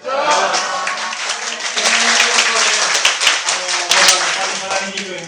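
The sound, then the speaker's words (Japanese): A crowd applauds with dense, sustained clapping, punctuated by sharp individual claps and mixed with cheering voices, loud throughout the whole stretch. “たくさんご声援ありがとうございます。”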